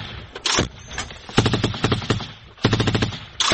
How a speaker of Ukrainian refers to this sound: Почав працювати снайпер в нашу сторону.